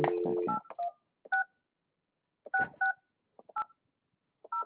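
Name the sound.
telephone dialing tones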